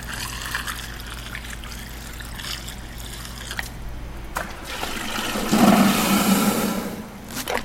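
A Buttonwood elephant, about 8,000 pounds, drinks water: steady trickling and gurgling, then a louder rushing, splashing surge of liquid that swells midway and fades. No one speaks.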